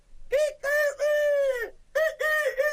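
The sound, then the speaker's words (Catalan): A person's voice imitates a rooster crowing, a loud cock-a-doodle-doo in several drawn-out, tuneful syllables with a short break in the middle, voicing the rooster in a Catalan telling of the tale of la rateta (the little mouse). “Ui, ui, quan sentirien el teu cant, totes les gallines vindrien amb mi.”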